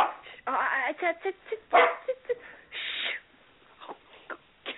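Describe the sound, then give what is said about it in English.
Dogs barking in a string of irregular bursts, some sharp single yips and a few longer, higher howling barks, fairly loud against a quiet background. “Oh, sorry, the dogs.”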